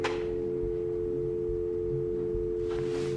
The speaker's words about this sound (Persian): گوشی رو برمیداره.